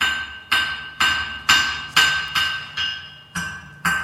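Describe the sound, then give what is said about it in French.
Repeated ringing metallic strikes of a blacksmith's hammer on an anvil, forging iron and steel, about two per second in a steady rhythm, each clang bright and sustained before the next blow, loud with no voices. “Le Forgeron, ami du fer et de l'acier, toujours à les perfectionner, en faisant tonner le bruit sourd du marteau sur l'enclume.”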